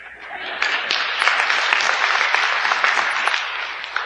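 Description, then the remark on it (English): An audience claps steadily, a dense wash of many hands with sharp individual claps poking through, fairly loud and sustained for about four seconds with no speech over it. “That's right, it's okay to clap.”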